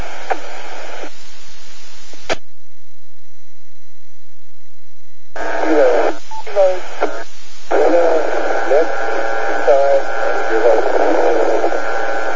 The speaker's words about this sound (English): I had two stations trying to check in at the same time.